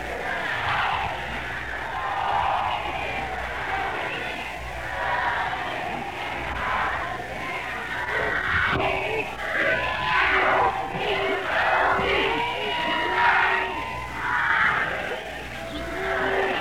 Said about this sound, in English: Everybody saying shush, trying to quieten the crowd so that Mr. Chamberlain can make a speech.